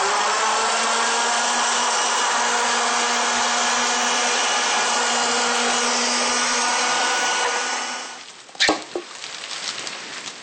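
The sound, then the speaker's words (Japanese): A blender blending parsley and mint into a healthy juice whirs steadily with a broad, even motor roar and a low hum for several seconds, then winds down and stops, followed by a few clattering knocks. “もう一度ミキサーにかけます。”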